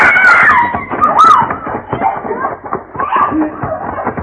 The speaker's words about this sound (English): What was that? Oh, sound like a lady scream, Mr. Paladin.